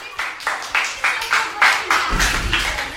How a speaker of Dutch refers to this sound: Nest Paars, wat is jullie antwoord? Nest Blauw. Applaus voor Nest Paars.